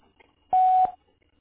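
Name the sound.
voicemail answering machine beep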